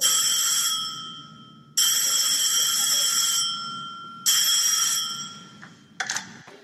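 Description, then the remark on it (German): A telephone rings loudly, three bright metallic bursts separated by short pauses, the third cut short and followed by a brief clatter. No one speaks. “Plötzlich klingelt das Telefon.”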